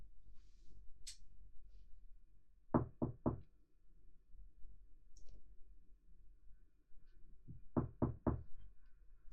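knocking on a door

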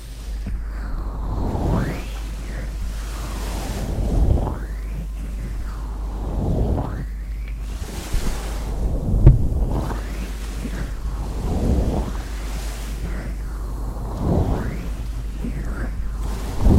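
ocean waves

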